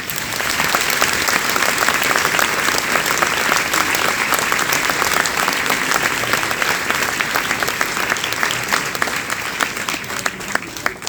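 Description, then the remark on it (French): A crowd applauds steadily for about eleven seconds at a town speech with the municipal council, thanking health professionals, many hands clapping in a dense, crackling wash that stays loud throughout and fades only slightly at the end. “nous souhaitons, avec les membres du conseil municipal, avec l'ensemble de la population, chers Péroliens, chères Péroliennes, remercier les professionnels de la santé qui ont pris soin de nous et je propose que nous nous applaudissions.”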